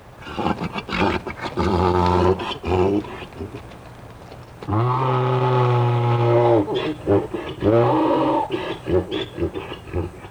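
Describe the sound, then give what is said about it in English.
A mule brays loudly in several long, harsh, honking calls that rise and fall in pitch, with a sustained blast in the middle and a shorter call at the end, calling out to another mule as it is led out of sight. “And sure enough, just as his buddy disappeared out of sight again, our recording mule called out to him, we got our performance.”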